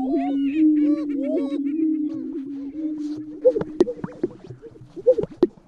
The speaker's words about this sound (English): These are male prairie chickens, snorting through their enlarged air sacs as they strut their stuff in the American Midwest.